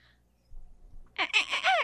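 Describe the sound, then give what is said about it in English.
A person imitating a dolphin with a quick burst of high, squeaky chirps and wavering whistles that rise and fall, fairly loud, following a second of near silence with faint low rumbling. “Do your dolphin.”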